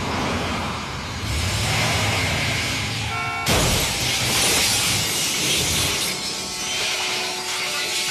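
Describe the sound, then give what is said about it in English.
Loud roaring traffic noise as a car races through city streets in Mexico City, chased by a pickup truck, then a sudden violent car crash midway through, followed by a sustained bright wash of shattering glass and debris while a steady tone drones on. “The car crash is the central event of Amores Perros.”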